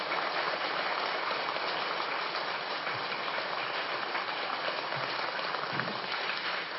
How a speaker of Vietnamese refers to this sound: Tất cả chúng ta hãy dâng cao một tràng vỗ tay để bày tỏ lòng biết ơn đối với thầy.